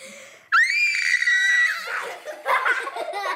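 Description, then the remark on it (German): A person screams as loudly as they can into a drinking glass, trying to shatter it: a loud, high-pitched scream bursts in suddenly, holding a steady shrill pitch for about a second before breaking into breathy, wheezing laughter. The glass does not break. “Ich halte ein Glas und schreie so laut, wie ich kann, rein.”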